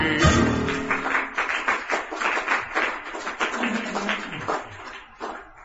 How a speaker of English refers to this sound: Don't clap too hard. We're in a very old building.